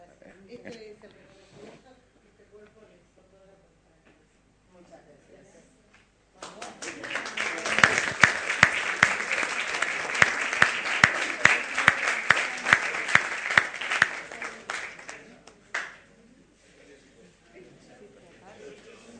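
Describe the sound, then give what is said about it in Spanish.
A crowd bursts into applause in the Senado de la Nación, a dense wash of many hands clapping that swells quickly, holds steady for several seconds, then tapers off. A voice speaks quietly before and after. “Bueno, vieron que acá se puede aplaudir en el Senado de la Nación.”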